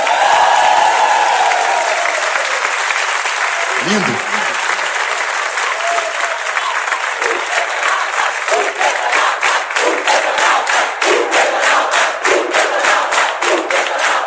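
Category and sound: crowd, audience applause and cheering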